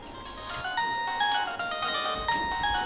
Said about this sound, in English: Your phone has been ringing and I thought it might be important.